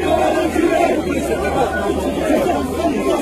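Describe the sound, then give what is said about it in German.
A large crowd boos and jeers French President Macron during a spontaneous walkabout, a dense, continuous roar of many voices that holds steady and loud for a few seconds with no pause. “Bei einem spontanen Bad in der Menge wurde Macron ausgebuht.”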